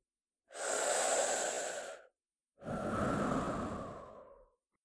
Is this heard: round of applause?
no